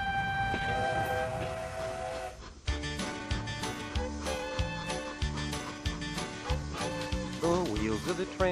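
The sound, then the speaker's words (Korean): On a cross-country train trip across the United States, a train horn sounds in long, steady tones over the rumble of the train moving along the rails, then gives way to a busier, rhythmic clatter that stays fairly loud throughout. “자, 이번에는 아만다 씨와 함께 미국 대륙 횡단 기차 여행 떠나보시죠.”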